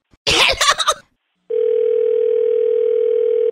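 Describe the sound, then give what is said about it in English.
A brief clattering clunk of a handset being hung up, then a short pause before a steady, unbroken dial tone hums at a constant mid-low pitch until the end. “I'm hanging up, and I'm calling animal control and 911.”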